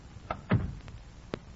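A door is shut: a light click, then a soft, low thud as it closes, followed a moment later by another sharp click. It is fairly quiet, with no voices.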